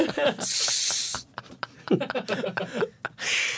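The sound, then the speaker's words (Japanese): A voice makes two loud, sustained hissing bursts imitating an aerosol cooling spray, the first about a second long, the second shorter, with brief chatter and laughter in between. “冷却スプレーすぐだよ、もう。”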